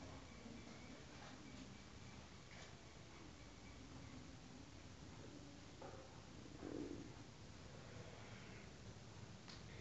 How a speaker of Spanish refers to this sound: y en la naturaleza, el búho, corulla.